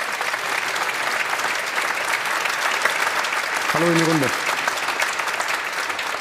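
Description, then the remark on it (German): A studio audience in Munich claps steadily and densely for several seconds for Lars Stindl, U20 national team co-coach, linked in from the DFB Campus in Frankfurt. A man's voice briefly speaks a short greeting over the sustained wash of applause partway through. “Grüße nach Frankfurt, Applaus aus München für dich.”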